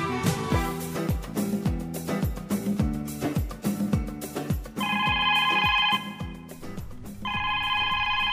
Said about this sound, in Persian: بله. شما زنگ تلفن رو نمیشنوین؟ میشنم، گفتم که هر کس صداش در پیامگیر ضبط میشه دیگه.